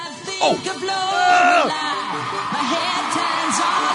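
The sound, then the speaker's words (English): A big concert crowd cheers and chants as it recognizes the song being played: sharp whoops and yells rise over a steady, dense roar of voices that holds loud throughout, with a rhythmic swell of shouting toward the end. “My friend must be in the crowd because there was a lot of excitement when the recognition factor hit. They're chanting.”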